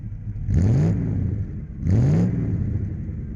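The engine of a completely stock Nissan Elgrand minivan on a race track revs hard twice in quick succession, each surge climbing in pitch before settling back to a steady, loud rumble, with no voices.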